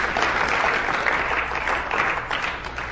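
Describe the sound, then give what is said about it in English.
Sustained applause from a large church audience during a sermon, giving the Lord a hand clap: many hands clapping at once in a dense, steady roar that fills the whole moment without pause, with no voices standing out above it. “Give the Lord a hand clap if you understand that.”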